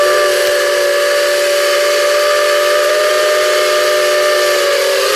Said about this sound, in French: Oui, un train. Ouais, un train. À vapeur. Locomotive à vapeur, ouais.